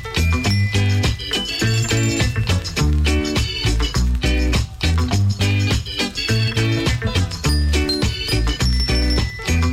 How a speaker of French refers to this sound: Bah les voilà les clochettes. Le petit carillon. Les roquets. Les clochettes de Noël.